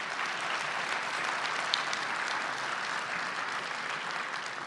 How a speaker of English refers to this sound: Well, again, a round of applause for these ladies. Thank you so much.